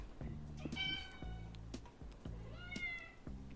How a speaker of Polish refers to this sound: To naprawdę kot miał, czy... Słyszę kota.